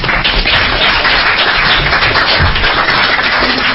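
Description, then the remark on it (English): A group of people at a council meeting applauding after a motion carried 6-1, a dense, steady wash of many overlapping claps that holds loud and even for several seconds with no voices over it. “Let's just clap.”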